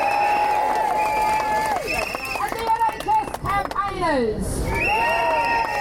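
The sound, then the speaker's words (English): A loud crowd cheers and whoops continuously for the unions fighting for workers' rights, with sustained high wavering shouts and whistles rising and falling over a dense wall of voices. “Let's have a cheer for all the unions here fighting for workers' rights.”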